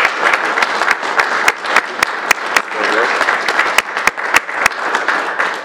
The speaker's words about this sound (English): So much of what keeps Illinois resources protected and healthy comes and is benefited by the work of the PRI Institute here at the U of I. Can I have a round of applause for the leaders there at the PRI?